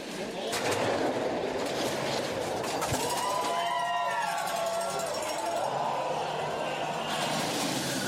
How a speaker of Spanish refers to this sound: Es el roce del trineo sobre el hielo, ahí vas completamente tumbada, boca abajo, y con tu cuerpo controlas el trineo para que tome una u otro giro, ¿no?